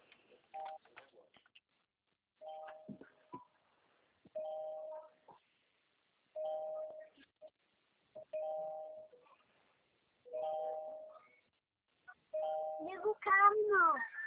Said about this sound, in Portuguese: O carro tá pitando com a porta aberta.